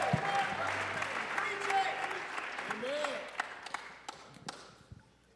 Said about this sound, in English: Clap your hands all over this house one more time before you see. Alguien dele palmas antes de que se siente.